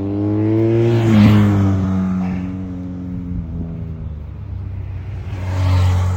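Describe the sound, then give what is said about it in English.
A group of motorbikes roars past on a hill climb, engines revving with strong harmonic drones that swell, ease off, then build again as another bike approaches near the end. “Completely obliterated by the occasional group of motorbikes.”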